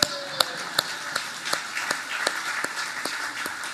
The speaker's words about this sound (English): Why are you clapping for a dummy?